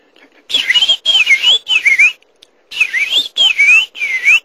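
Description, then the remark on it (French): A person whistles an imitation of a blackbird's song in two bursts of three warbling, swooping phrases each, fairly loud, with a brief pause between bursts and no talking. “Je vais essayer le merle, tiens.”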